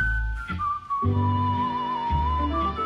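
A clear, steady whistled melody rides over a song's accompaniment, with sustained pure tones sliding gently between notes as a whistling solo within the music.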